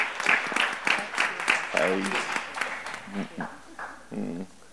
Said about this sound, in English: Give them a hand clap of appreciation and praise there.